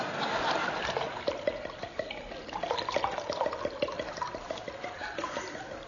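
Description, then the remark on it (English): Liquid pours steadily into a glass for several seconds, a continuous gurgling splash whose tone rises slightly as the glass fills, with no voices. “Enough? Just a spot more.”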